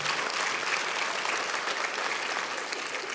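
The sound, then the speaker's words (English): Steady, dense applause from an audience, a continuous wash of clapping hands that holds at an even, fairly loud level for the whole stretch, with no voices standing out. “Yeah, you can cheer.”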